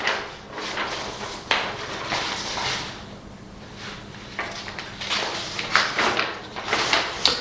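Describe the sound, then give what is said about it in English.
A door is shut and locked, a run of knocks, rattles and metallic clunks spread over several seconds, with a short scrape and a final louder clack near the end. “No, David's just locking up, there is no one else.”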